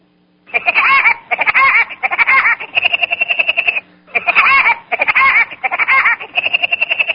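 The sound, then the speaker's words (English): A voice imitates Woody Woodpecker's laugh, loud: two rapid, rhythmic bursts of high, chattering 'ha-ha' pulses separated by a brief pause, with no other talk. “You know, I can't tell much difference between Woody Woodpecker and you, I have to tell you.”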